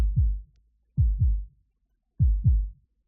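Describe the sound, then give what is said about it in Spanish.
A deep, booming heartbeat sound effect from a promotional video for the eighth centenary of Toledo Cathedral: three lub-dub double thumps, low and resonant, spaced evenly about a second apart with silence between, no voices. “Ven y siente el latido del corazón de Toledo.”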